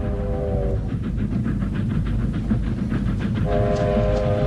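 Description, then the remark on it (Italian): A train thunders along the tracks, its horn blaring at the start and again near the end over a steady roar and rhythmic rail clatter. “Levati dalle rotaie, sbrigati. Treno, ti aspetto.”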